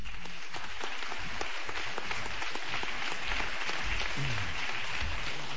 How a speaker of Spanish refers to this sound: Ahora le toca el turno de hablar ante ustedes al representante de la cadena COPE. Les pido un aplauso para Alfonso Nazarre.